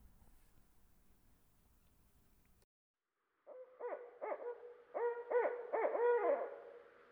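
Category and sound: bird, barred owl hooting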